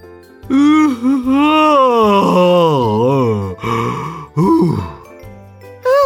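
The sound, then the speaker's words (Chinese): A man yawns loudly and at length, a drawn-out, wavering groan followed by shorter breathy bursts, over a low steady hum like a vehicle engine. “那边有个叔叔在大声打哈欠。”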